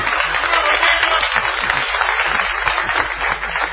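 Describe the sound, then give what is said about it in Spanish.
A crowd applauds steadily for a few seconds, a dense, continuous wash of many hands clapping at an even, fairly loud level without any speech over it. “Aplauden los de Fiat allá.”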